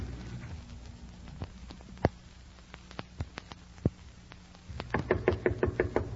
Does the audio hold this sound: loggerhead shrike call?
no